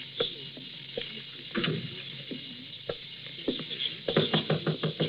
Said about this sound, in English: All right, knock it. I'm coming.